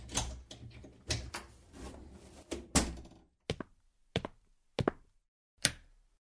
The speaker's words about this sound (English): I opened the door of my apartment and turned on the light.